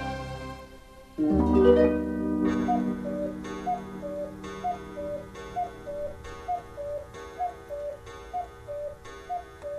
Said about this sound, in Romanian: Bătând ceasul din burta crocodilului.